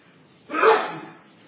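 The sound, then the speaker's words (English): A single sharp sneeze bursts out after a brief quiet moment, loud, then trails off quickly into silence. “God bless you.”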